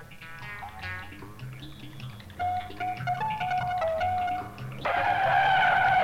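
A car engine roars at speed while tires screech in repeated high squeals, the noise building and growing louder and more intense toward the end, with no voices.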